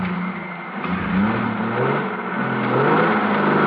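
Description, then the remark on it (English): A car engine rumbles steadily and then revs, its pitch climbing in a few rising sweeps as the vehicle pulls away. The noise is continuous and fairly loud, with no voices. “Start driving.”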